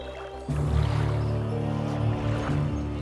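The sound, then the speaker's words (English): A boat, summoned by a wave of the hand to carry someone to the middle of the lake, glides in across calm lake water, a steady swell rising after half a second and holding, soft lapping blended with a low sustained hum. “My boat has come.”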